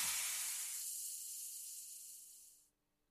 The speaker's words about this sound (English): Little Street returns to business as usual, save for a gentle hiss of something being released.